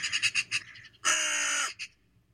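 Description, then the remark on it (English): A raven croaking: a quick run of five short, harsh calls, then a long grating croak and one brief final note, with no voices. “Quoth the raven, nevermore.”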